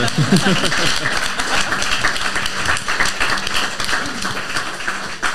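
An audience claps steadily for several seconds, a dense crackle of many hands with a few murmuring voices and a brief cheer mixed in near the start.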